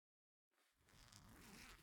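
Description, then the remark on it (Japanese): A zipper on the back of a dress is pulled down in one steady, continuous stroke lasting just over a second, fairly loud, with a raspy ratcheting texture after a moment of silence. “違う、この服後ろにチャックあるから。”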